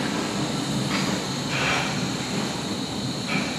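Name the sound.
subway train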